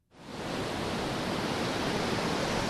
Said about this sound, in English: If there's a symbol of the ocean's raw power, it's the crashing wave.